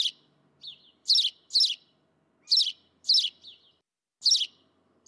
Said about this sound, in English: Europe is especially rich in bird songs. It's hard to go a day in Germany, for example, without hearing sparrows.